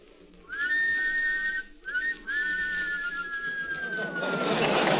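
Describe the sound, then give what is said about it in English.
Two men give a wolf whistle together in harmony, a sharp rising note followed by a long, sliding fall, loud, ending in a burst of noisy hiss. “Wolves in harmony, huh? Well, when we whistled, how would the girls respond”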